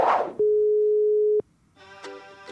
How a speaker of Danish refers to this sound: Skal vi ringe til min mor? Vi ringer lige til din mor.